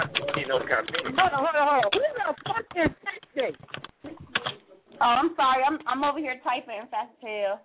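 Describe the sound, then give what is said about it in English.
Rapid keyboard clicking runs beneath nearly continuous talking, the clatter of keys poking through in short bursts and brief gaps between voices. “I'm over here typing fast as hell.”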